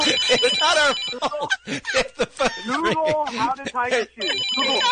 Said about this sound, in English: There's nothing we can do if the phone's ringing. I'm so sorry.